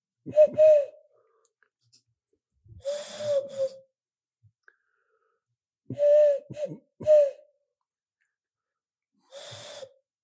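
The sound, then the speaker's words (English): A person mimics owl hoots in an ITV comedy sketch of knock-knock jokes told through owl sounds, producing about half a dozen breathy, airy hoo calls in short clusters separated by pauses, with no other talking. “take you on a comic journey through the world of knock knock jokes through the medium of owl sounds.”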